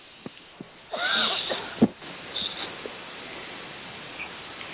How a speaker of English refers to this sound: And apologies for this cough, everyone.